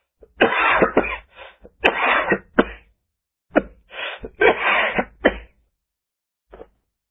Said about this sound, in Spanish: En ese momento, así con lo que fue una tremenda tos.